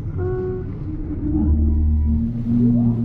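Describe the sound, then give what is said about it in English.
Deep, groaning tonal calls with slowly sliding pitch, droning and whale-like, sustained and fairly loud with no voices: the alien language from the film Arrival, made by New Zealand-based sound designers David Whitehead and Michelle Child from pitch-lowered local bird recordings plus other animals and instruments like bagpipes and didgeridoos. “To create the language of the aliens, New Zealand-based sound designers David Whitehead and Michelle Child recorded local birds and lowered their pitch, then added some other animals and instruments like bagpipes and didgeridoos.”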